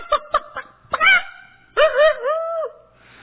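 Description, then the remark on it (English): A person's voice imitates a chicken clucking: a few quick, clipped bursts followed by two longer, drawn-out squawking calls, loud, with no speech. “Made the chickens that go.”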